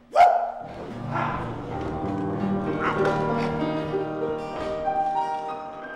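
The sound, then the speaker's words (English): A single short, loud bark, voiced by a performer for Lucy, a stage puppet dog with a Clorox bottle face and a stringy mop body worked by an actor's hand, rings out at the start, then gives way to steady instrumental music with sustained tones. “What do you say, dog? Will you help me build a boat?”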